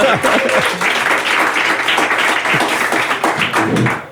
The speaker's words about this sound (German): Jetzt darf man auch gerne klatschen, weil das ist ja ein Live-Podcast, genau.